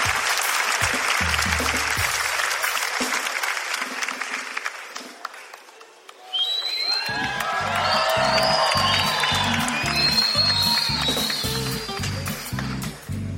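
A crowd bursts into loud, steady applause for a friend called the shark (el tiburón). It briefly dips, then swells again into cheering and whistles over a rhythmic, pounding beat.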